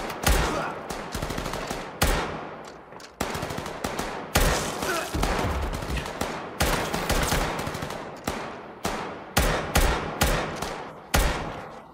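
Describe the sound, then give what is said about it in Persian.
Loud, sustained automatic gunfire laid down as covering fire rattles in rapid bursts, with brief gaps between volleys. It is sharp and continues for the whole stretch, with no one speaking. “شلیک نکنین، شلیک نکنین، انگار کسی نیست.”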